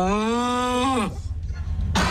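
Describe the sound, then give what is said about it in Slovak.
A person imitates a rutting stag's bellow: one long, low, harmonic roar held steady for about a second, then sliding down and breaking off into breathy rumbling, with a brief burst at the end. “Že mu navábi aj celý zoznam, čo treba nakúpiť, tak takto sme spoločne vábili pár rokov dozadu.”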